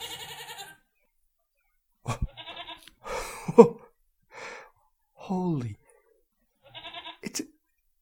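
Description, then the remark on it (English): Several short, wavering goat bleats come in separate bursts with pauses between them, while a person gasps and speaks in between the calls. “I think it's a goat.”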